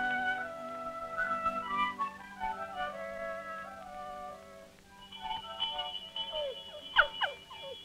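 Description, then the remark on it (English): A farm dinner bell rings in a steady run of sustained, overlapping metallic tones that shift in pitch, with a few quick, sharp chirping notes near the end. No one speaks. “That's one of the best sounds there is. A farm dinner bell.”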